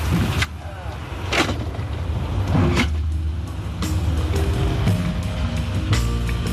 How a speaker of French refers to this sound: Les heures passent et se ressemblent dans ce calme où le bruit blanc du train berce la centaine de passagers.